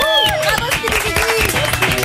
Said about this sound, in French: Il est rapide, il est fort, il est efficace. Je demande comment il fait, mesdames et messieurs, veuillez applaudir.